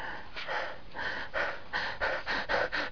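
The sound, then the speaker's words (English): A voice imitates a woman's fast, excited breathing: a rapid run of about eight breathy pants in a steady rhythm, fairly loud, with no speech. “She starts breathing faster.”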